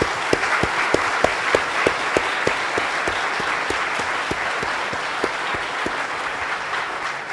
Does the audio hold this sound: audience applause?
yes